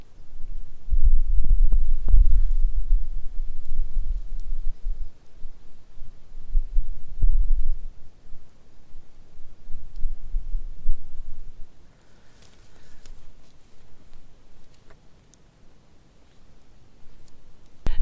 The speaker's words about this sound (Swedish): Spisån som rinner från Nils Jonsson vattnet och ner i Stora Foskvattnet. En fantastisk fors som brusar ända hit upp.